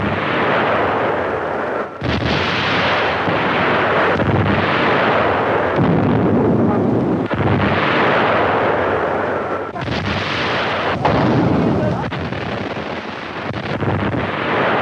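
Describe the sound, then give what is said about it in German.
Naval artillery of the armored ship Deutschland firing in salvos at an enemy cruiser: loud, heavy booms erupt every couple of seconds over a continuous roaring, rumbling wash of noise, with no voices. “Artillerie klar zum Feuern. Mit dem feindlichen Kreuzer.”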